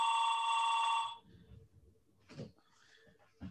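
A telephone rings loudly, one sustained bright ring lasting about a second before cutting off, followed by faint rustling and quiet movement.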